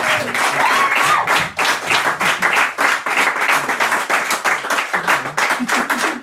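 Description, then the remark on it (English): An audience breaks into sustained applause, many hands clapping in a dense, steady wash that stays loud for several seconds, with a few faint voices and cheers mixed in. “So, like, a big round of applause for all the crack.”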